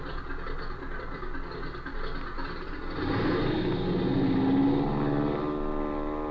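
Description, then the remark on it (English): A propeller plane's engine drones steadily, then swells louder around the midpoint with a rising, throbbing hum as it revs up. No voices are heard. “we're climbing into that aircat and getting back to Springfield so that I can do some checking up.”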